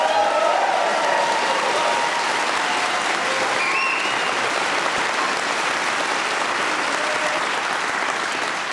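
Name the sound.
enthusiastic audience applause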